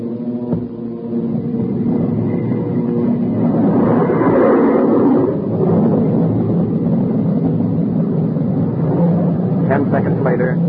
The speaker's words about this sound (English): When the B-29 hit 225 miles per hour, Captain Mayo and the B-29 pilot had a short conversation. Then Captain Mayo switched on our jet engine.